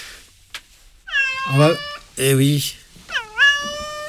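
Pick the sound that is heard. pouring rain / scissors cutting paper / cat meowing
cat meowing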